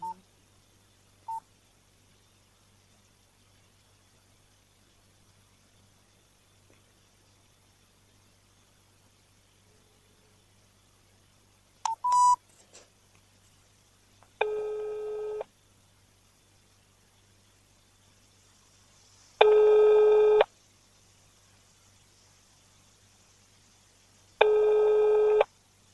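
A few short keypad beeps as a phone call is dialed to the chairman of garage cooperative GSK 21 in Biysk, followed by three long, steady ringback tones evenly spaced with silent gaps between them, with no one speaking.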